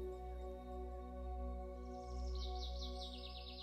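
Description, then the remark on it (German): High, rapid bird chirps in a spring meadow enter partway through, repeating in quick bursts over a steady low hum and drone, fairly soft. “Ein Summen, ein Zwitschern.”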